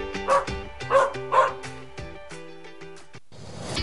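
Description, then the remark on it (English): A dog barks three times in quick succession, loud, and then falls quiet as a soft sustained tone carries on underneath. No one speaks. “Dogs are admitted free to the game alongside a human with a ticket. See you at Bark in the Park this summer.”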